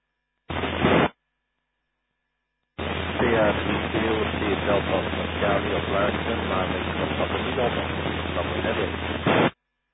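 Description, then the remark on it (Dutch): A short burst of radio hiss cuts off, then after a pause a long stretch of steady static returns, with a faint, barely intelligible amateur radio station calling in during a net round, buried deep beneath the noise. “Oeh, ik hoorde dat zat heel diep in de ruis, maar ik had meegegeven op luisteren.”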